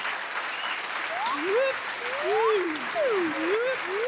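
A crowd claps steadily for about four seconds for a contestant, the applause level being judged, a dense crackling wash of applause, with rising and falling whoops and cheers sliding through it at moderate loudness.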